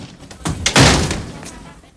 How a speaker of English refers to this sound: He glances round, then goes into the house, kicking the door shut behind him.